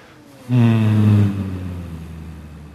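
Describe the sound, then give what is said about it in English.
A group of voices hums together on a low, steady pitch for about a second, exhaling with a hum after drawing in a long, deep breath, then the hum fades into a softer, lingering tail of breathy tone. “And drawing in a long, deep breath and exhale with a hum.”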